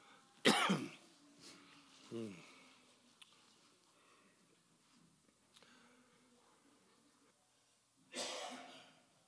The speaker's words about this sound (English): It's hot up here. I think that's why I'm coughing so much.